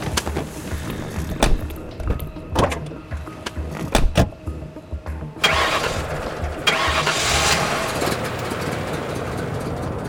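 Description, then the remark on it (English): Several sharp clunks and thumps, like doors and movement inside a car, then a car engine starts and settles into a steady, fairly loud run. No one speaks. “Get in the damn car.”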